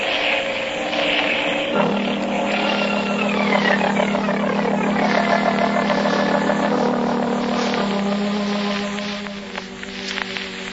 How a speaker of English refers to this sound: I'll have to put this plane down in that cove there and trail the pigeons by daylight.